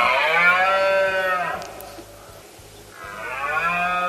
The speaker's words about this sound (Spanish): Este fin de semana, de hecho, se va a ir a Andújar, en Jaén, para recoger con su grabadora la berrea de los ciervos.